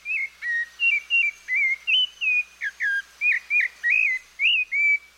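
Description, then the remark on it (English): A rufous-bellied thrush sings from nearby woods in Argentina in summer, a steady run of about a dozen short, clear whistled phrases that rise and fall, fairly loud, with no other sounds. “It's a rufous-bellied thrush, a near look-alike of our robin.”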